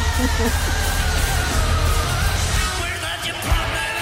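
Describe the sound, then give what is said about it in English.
A large crowd roars and cheers wildly in a dense, steady wash of noise, with scattered yells rising out of it and a brief surge near the end. “Yeah, crowd going nuts.”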